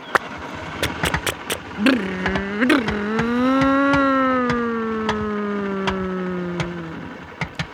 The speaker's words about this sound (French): La voiture démarre.